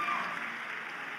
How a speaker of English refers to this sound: Oh, clap for them. Clap for them. That's something good.